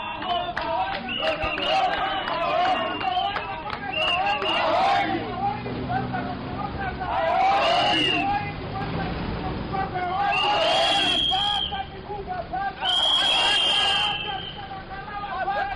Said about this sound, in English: Close to 100 youths marched from townhouse to the offices of the Zimbabwe Electoral Commission, chanting slogans and blowing whistles.